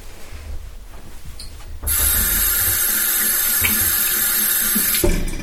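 A tap is turned on and water runs steadily in a broad hiss while hands are washed under it after handling chicken while cooking, splashing slightly, then it shuts off near the end. No one speaks.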